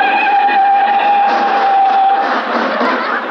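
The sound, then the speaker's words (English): A car brakes hard: a loud, steady tire squeal holds for about two seconds, then breaks into rough scraping noise as the vehicle skids to a stop. No one speaks. “Mr. Benny stepped on the brakes.”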